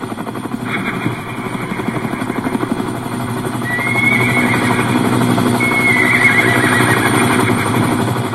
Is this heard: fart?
no